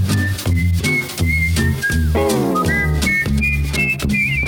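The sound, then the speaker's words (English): Several people whistle a bright, bouncy radio station jingle tune together over a full instrumental backing, the melody steady and upbeat, loud throughout. “Everybody whistle now.”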